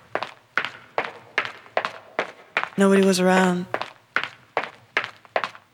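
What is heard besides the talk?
footsteps on pavement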